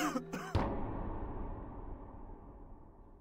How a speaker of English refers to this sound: But then one night, while sitting at the table in the kitchen, I heard a man cough right outside the house.